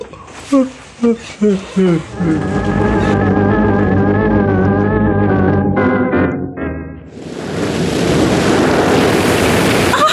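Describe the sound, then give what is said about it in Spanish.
Short shouted voices and a long drawn-out cry give way to a loud, roaring surge of crashing ocean waves and heavy swell stirred up by a sinking ship, filling the last few seconds. “¡Se han desatado muchas olas cuando el barco se hunde!”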